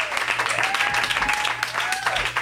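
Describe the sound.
An audience applauds steadily, a dense wash of many hands clapping at once, with a few voices whooping and calling out above it throughout.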